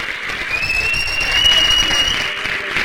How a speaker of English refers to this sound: They applauded the healthcare workers and the first responders. They just all went out on the streets and in their balconies and clapped.